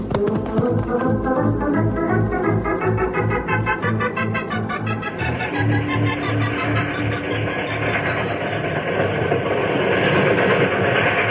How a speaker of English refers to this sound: we can't chase a train along the tracks on horses